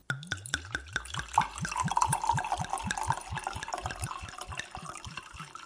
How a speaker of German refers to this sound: Darf ich dir einschenken? Sehr gerne.